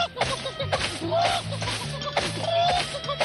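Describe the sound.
A man imitates a clucking chicken while running around a car yard flapping his arms, letting out a quick run of loud clucks and squawks in an uneven, bouncing rhythm over a busy background.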